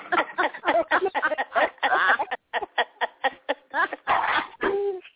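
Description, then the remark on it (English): A dog whimpers and barks in a rapid string of short yips and whines, some rising and falling in pitch, somewhat tinny, with a brief pause midway. “Wait a minute, somebody got a dog that's going Wait a minute, home.”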